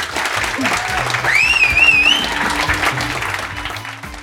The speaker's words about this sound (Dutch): Nog 1 keer een daverend applaus.